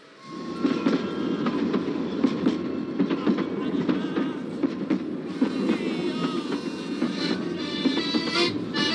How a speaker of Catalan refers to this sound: El tren duia pancartes clavades als costats, cartells a l'interior, vagons amb garlandes i banderes, i un cop tot disposats, el tren es va posar en marxa.